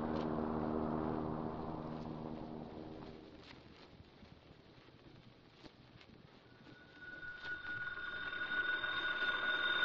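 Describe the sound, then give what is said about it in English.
A telephone rings at police headquarters with a steady, fairly loud electronic tone that builds in the second half, after a fading musical swell and a stretch of soft noise. No one speaks. “We phone the police.”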